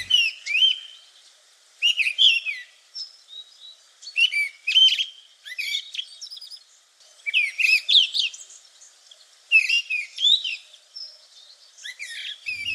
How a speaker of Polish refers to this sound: Sprawdźmy, jak brzmi paszkot w internecie.